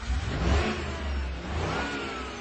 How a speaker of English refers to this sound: Okay, start me up. She turns the key. The Buick roars into life.